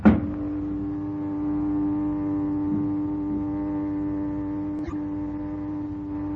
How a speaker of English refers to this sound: Boy, they sure skipped the soundproof gag on this one. This noisy elevator may help us a great deal